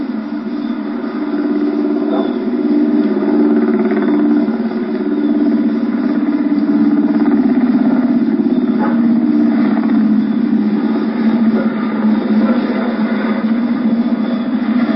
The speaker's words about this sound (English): Looks like a Marine helicopter. Now he's going lower than all the rest.